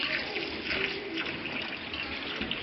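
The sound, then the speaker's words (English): Steady warm spa mineral water pours continuously from a fountain spout, a dense, even splashing hiss with no breaks and no voices over it. “We are now about to drink some of the actual spa water.”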